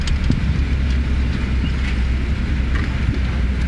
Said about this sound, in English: The parking car.